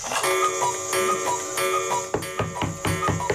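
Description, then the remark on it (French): A pendulum clock ticks in a steady, even rhythm, sharp, fairly loud clicks over a sustained tonal hum, the ticks growing more distinct toward the end. “Et comme chaque année, de nombreuses personnes oublient de remettre leur pendule à l'heure.”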